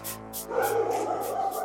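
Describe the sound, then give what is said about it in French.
Several police dogs of the canine brigade, on the heights of Saint-Étienne, France, bark and yip excitedly in quick bursts, a loud, busy chorus of overlapping barks with high-pitched yelps, continuing throughout. “Kaiser, Athos, Enjoy, Voyou ne sont pas vraiment des chiens-chiens à sa mémère.”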